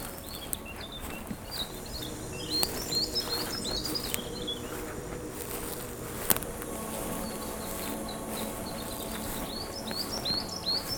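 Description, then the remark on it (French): Several birds chirp repeatedly throughout in the mountains, quick high tweets over a steady outdoor hiss, with a soft insect-like buzz in the background and no talking. “Je marche doucement pour ne point effrayer les oiseaux.”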